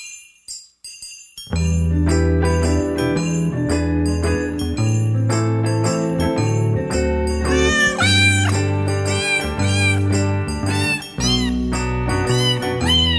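Cat meows pitched and strung together into a festive Christmas jingle, playing loudly over a steady bouncing bass and bright backing music, continuing for the whole stretch after a brief quiet start.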